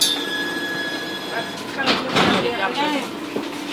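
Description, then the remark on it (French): A Lyon public transport rail vehicle rolls past on its tracks in Lyon, a steady mechanical rumble with high metallic whines and a brief wheel squeal midway, as muffled voices murmur in the background. “Les voies des transports en commun lyonnais.”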